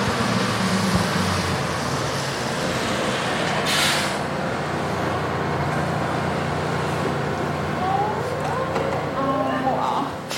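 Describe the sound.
Busy New York street traffic roars steadily as a large city bus rumbles past, with a sharp hiss of air brakes partway through and brief squealing tones near the end, faint voices mixed into the din.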